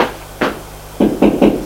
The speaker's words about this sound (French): Il va frapper à la porte du petit salon.